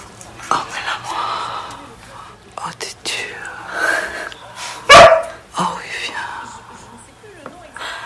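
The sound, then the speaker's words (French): A voice imitates a cat that barks, giving short barks and yips that rise into a loud howl near the middle, in an imitation scene by Noémie Lovski and an actor, with whispered talk and breathy sounds scattered around it. “Le coup du chat qui aboie et qui se met à hurler à la mort, c'était prévu au départ?”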